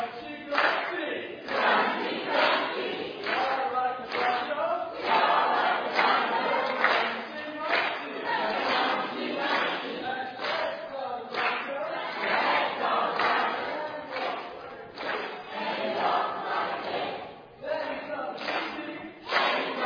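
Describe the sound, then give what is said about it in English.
The green team crowd cheers loudly and steadily for about twenty seconds, giving its best cheer for 300 points: a dense wall of shouting and yelling voices with bursts of clapping mixed in, never dropping to quiet. “So come on ahead, green team. Give it your best cheer for 300 points.”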